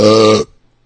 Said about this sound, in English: They burp? Yeah. It's from the beer, man.